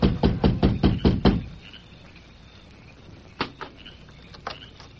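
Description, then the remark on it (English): A quick, even series of about seven sharp knocks on the door of a small house at dusk, fairly loud, followed by quiet with a few fainter taps and rustles later on. “It was dusk when he reached the small house and rapped on the door.”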